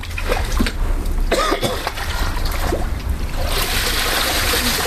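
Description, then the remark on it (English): Water trickles and drips steadily out of a soaked computer that was submerged in a pool, a continuous splashy flow broken by a few sharper bursts, growing a little brighter and hissier toward the end. No one speaks. “This is the water kind of dripping out of its computer.”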